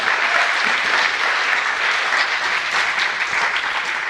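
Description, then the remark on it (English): Sustained applause from a sizable audience, a dense, steady wash of clapping hands at even loudness throughout, without any voices breaking through. “Which is just bonkers, but deserves a round of applause.”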